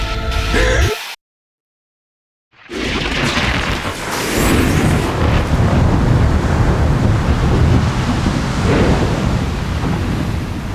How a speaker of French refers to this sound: La tempête est trop envahissante! Je sais! Les vagues nous passent dessus!